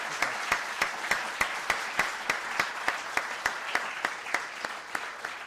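An audience applauds steadily for several seconds, a dense wash of clapping with one sharp, evenly spaced clap cutting through in a regular rhythm. No one speaks over it.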